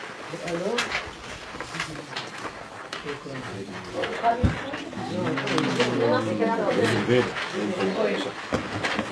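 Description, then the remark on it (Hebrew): A pigeon coos in low, throaty repeated phrases, mixed with several people talking and moving about. “היונה תרוף, נו.”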